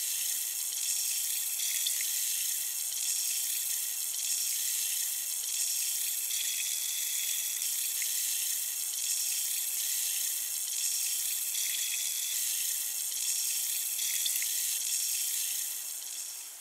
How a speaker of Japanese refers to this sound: 洗浄効果も良いと思うのですが、何よりこの音がとても心地いいですよね。シュワシュワと弾ける音、なんだか現実から離れたような感覚になります。